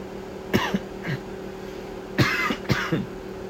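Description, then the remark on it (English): Several short, harsh coughs: a single cough, then a quick pair a moment later, over a low steady hum with no one speaking. “I said, I thought I just coughed and said, excuse me, automatically again.”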